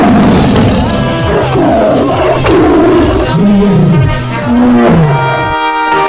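A tiger roars loudly, a sustained series of deep, rumbling growls and snarls lasting several seconds with a brief break near the end. No one speaks.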